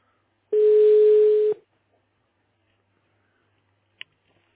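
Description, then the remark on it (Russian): A single steady telephone ringback tone sounds for about a second as a telecom technical support agent calls a customer, then a long silence while the call waits to connect, ending with a faint click. No one speaks. “Сейчас я уже звоню.”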